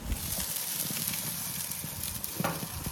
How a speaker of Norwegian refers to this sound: Og en av mine hobbyer jo grilling. Nå kylling som grilles, og jeg har det på rotisseri. Skal jeg åpne og høre hvordan det høres ut?